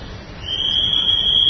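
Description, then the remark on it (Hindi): A night watchman's whistle, blown as the watchman makes his rounds at night, sounds one long, steady, shrill blast that begins after a brief pause and holds without wavering, clear above a low background rumble. “देखो सीटी बज रही है, पहरेदार घूम रहा है, क्या चिल्लाते हैं रात को पहरेदार?”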